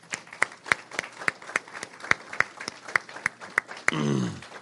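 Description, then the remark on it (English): A church audience claps together in a steady, even rhythm for those who completed the New Testament reading challenge, the sharp claps landing clear for several seconds before a voice begins speaking at the end. “Let's give everybody a round of applause on that.”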